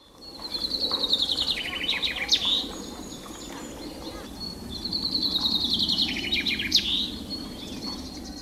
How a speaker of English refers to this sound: Birds from Flanders sing a song which ends with a particular flourish, which Flemish finch keepers, known as finconeers, call a suskavit. Have a listen to this and see if you can pick it up.